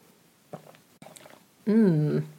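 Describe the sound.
A drink is sipped from a glass during a toast, right up against the microphone, with a couple of soft, wet gulping and slurping sounds, followed by a loud, satisfied hummed voice.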